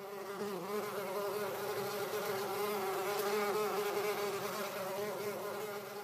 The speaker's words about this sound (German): Der Frühling ist auf jeden Fall nicht mehr zu überhören, es summt und brummt.